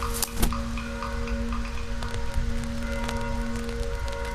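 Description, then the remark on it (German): Steady, dense patter of heavy rain falling outdoors, with scattered sharper drops and a faint constant hum underneath, no voices. “Es regnet gerade jetzt sehr viel, ne?”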